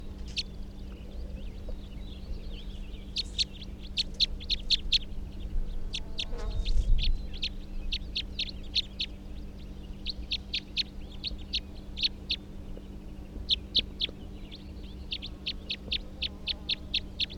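A captive bird, bird 340, gives a type 3 vocalization: bursts of short, sharp, high-pitched notes repeated in rapid trains with brief pauses between groups, over a steady low electrical hum.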